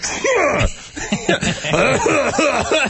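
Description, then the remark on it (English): A voice mimics a series of coughs and raspy throat clearing, several harsh bursts in quick succession, fairly loud with no other sounds around it. “First off, so I started thinking, do people just sneeze and cough randomly about every 12 seconds?”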